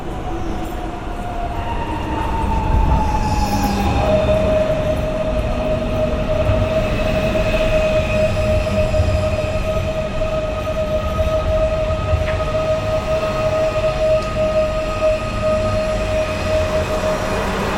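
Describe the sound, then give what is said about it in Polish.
An SKM commuter train rolls past on the rails, a steady loud rumble with a sustained high whine and rising pitch shift, lasting throughout with no talking. “SKM. To są te SKM-ki.”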